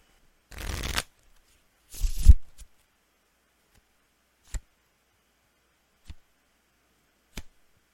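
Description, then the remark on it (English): A deck of tarot cards is shuffled for a reading in two quick riffling bursts. Three sharp, isolated taps follow as cards are set down at spaced intervals. No one speaks. “Let me shuffle.”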